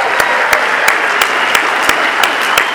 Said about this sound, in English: San Fernando Valley Convention Committee, thank you. Let's all give them a big round of applause.